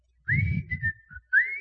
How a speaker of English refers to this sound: I can still whistle the theme song from Andy Griffith.